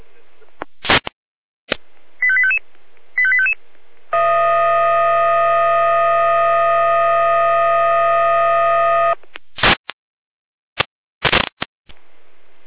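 A fire brigade dispatch alarm over radio, calling out a general assistance call for several fallen trees on road L1070: crackling bursts, two short stepped tone sequences, then a loud, steady, buzzy alarm tone holding about five seconds before more static clicks.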